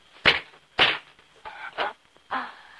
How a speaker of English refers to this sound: Firmly grabbing her chin, he slaps her.